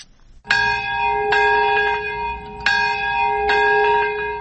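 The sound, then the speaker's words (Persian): Large bells toll in a slow, steady sequence at a memorial ceremony in Nagasaki, Japan, marking 71 years since the atomic bombing of the city. Each loud strike rings out with long, sustained harmonic overtones that overlap the next. No voices are heard. “صدای زنگ ها و ناقوس ها همساله این را بیاد می دهند که در یگانه مورد حمله هسته‌ای در ژاپن بیش از 200 هزار تن جان دادند.”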